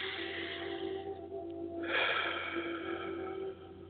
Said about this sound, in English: And you take one deep breath. And you release. Take another deep breath.